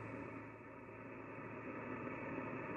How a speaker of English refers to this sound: No, nothing. Nothing but static. Too early in the morning here.